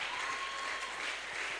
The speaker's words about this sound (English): Oh, come on. You are not clapping. You are not clapping. You are not clapping. Oh, I think you should clap better.